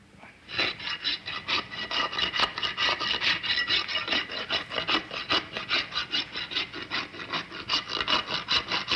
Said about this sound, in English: W59, take one, filing horse's hoof.